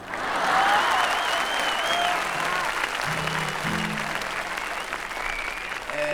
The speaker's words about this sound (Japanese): よくこの歌に手拍子したな。 感心しとる俺は。